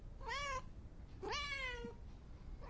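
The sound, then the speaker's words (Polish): A cat meows twice: a short call and then a longer, drawn-out meow with a rising then falling tone, with the start of a third cut off at the end. “Ja myślę, że czas powoli, żebyśmy przeszły do tego dnia kota, jak się okazało.”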